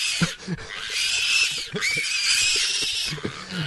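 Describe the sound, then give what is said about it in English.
A pig, a hog bought at an auction in Florida for $7,000, grunts repeatedly in short, low bursts, fairly loud, over a steady harsh, hissy background that sounds like squealing or commotion. No one speaks. “The pig is not a pet.”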